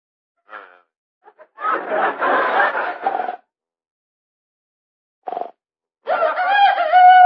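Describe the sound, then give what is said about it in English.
A chicken crows loudly at 3 o'clock in the morning in several separate bursts: a harsh, raspy squawking stretch, a short sharp cry, then a long, drawn-out tonal crow to finish. No one speaks. “It's just a chicken crowing.”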